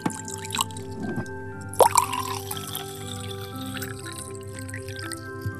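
Ordinary tap water runs and trickles into a glass jar, with a rising tonal ring as it fills, a few splashy drips near the start and a steady pour throughout, fairly quiet.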